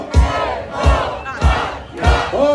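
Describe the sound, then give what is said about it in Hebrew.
A large crowd chants in unison with a steady rhythm, four loud collective shouts each punctuated by a drum-like thump, from protesters at a large demonstration in Jerusalem in front of the Knesset. “ביום שני שעבר הייתה הפגנה גדולה בירושלים.”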